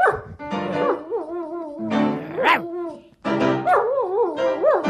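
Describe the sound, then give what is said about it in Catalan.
A German shepherd howls along as its owner plays piano, in long, wavering, sung-sounding phrases that rise and fall in pitch, with short whimpering yips, fairly loud, pausing briefly before resuming. “és un pastor alemany i estaríem davant del … del Regne Animal”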